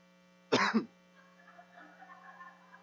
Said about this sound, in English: I was trying so hard not to cough this entire day.